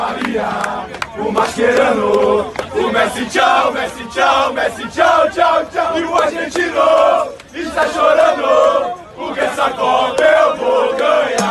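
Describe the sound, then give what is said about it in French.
A large crowd of football fans chants loudly in unison, repeating rhythmic sung phrases with brief dips between lines, the massed voices filling the whole stretch without a break. “Après cette défaite, les Brésiliens voyaient déjà leurs meilleurs ennemis rentrer à la maison et chanter ça.”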